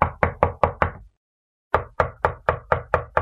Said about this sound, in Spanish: ¿Han llamado a la puerta? Sí, mamá. Voy a abrir.